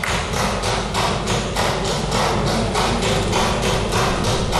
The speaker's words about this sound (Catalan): Aquest tic-tac que se sent de fons és el diputat de vot Sergio Rodríguez trencant el minut de silenci pegant copets amb el bolígraf damunt la taula del seu escó.